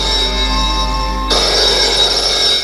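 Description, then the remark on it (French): A telephone rings loudly and continuously, a bright, steady bell-like tone over a low hum, turning harsher and more rattling halfway through. No one speaks. “Un matin, on téléphone.”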